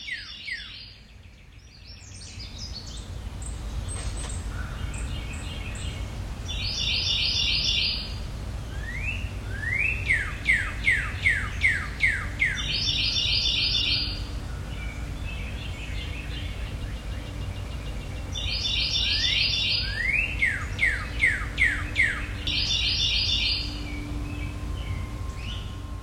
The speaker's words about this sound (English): A variety of birds providing a spring soundtrack on Mount Sequoia yesterday.